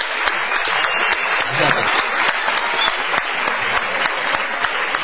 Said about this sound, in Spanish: Vamos a aplaudir a Santiago Segura. Bienvenido, muchas gracias.